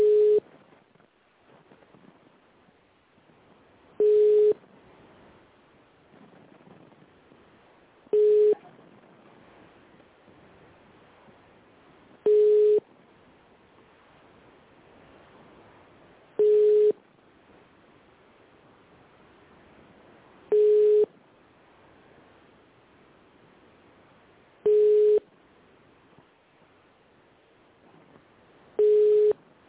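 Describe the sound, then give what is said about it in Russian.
A telephone ringback tone repeats unanswered as a company specialist is called: eight steady mid-pitched beeps, each about a second long, spaced roughly four seconds apart over a faint hiss, with no one picking up. “Сейчас специалист трубочку не берет.”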